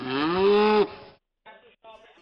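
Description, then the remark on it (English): A person imitates a cow with one long, loud, sustained moo that cuts off abruptly, followed by a couple of brief fainter voiced sounds after a short pause. “No, I'm a cow. Here, listen, I'm going to transform.”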